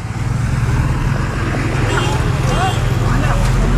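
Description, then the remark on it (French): Dense traffic noise from a traffic jam on a congested street in Delhi, India: a steady low engine rumble with scattered horn-like tones and voices, continuous and fairly loud throughout. “On a fait au moins une heure et demie de voiture dans les embouteillages à travers Delhi. Poussière, embouteillage, bruit, tension.”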